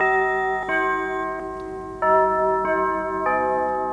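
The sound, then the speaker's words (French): The signature chime of a French radio station plays, with about five bell-like notes struck in sequence, each ringing on and overlapping the next. The notes are clear and fairly loud, with no voices. “il y a une chose qu'on ne changera pas, c'est le carillon d'Europe 1”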